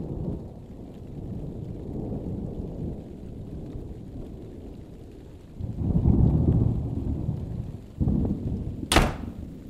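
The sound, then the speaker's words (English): A thunderstorm at night with steady rain and a low, continuous rumble of thunder that swells twice in the second half, ending in a sharp crack. No voices are heard. “And now let us turn our ears to the steps of Janet McKenzie coming home late one dark and stormy night.”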